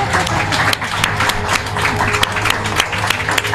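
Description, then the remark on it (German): Sustained audience applause welcoming Achim von Borries, a director and co-writer of Babylon Berlin: dense overlapping claps from a sizable crowd at a steady, fairly loud level throughout, with no one speaking over it. “Begrüße mit einem tosen Applaus.”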